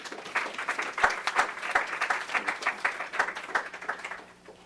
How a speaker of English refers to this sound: So please welcome me in giving a grand applause to our guest.